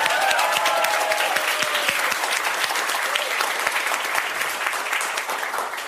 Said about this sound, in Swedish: Ge en varm applåd till Nanna Johansson.